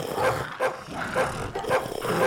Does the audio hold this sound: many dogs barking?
yes